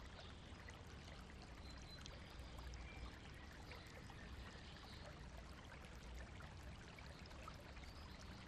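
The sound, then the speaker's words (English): A small garden stream murmurs and trickles steadily as it feeds a pond, a constant gurgle of running water that stays even from start to finish with no voices. “Honeybees drone over the flowers, and the little stream murmurs to itself as it feeds your pond, before running out of the garden under the road to find its way down to the sea.”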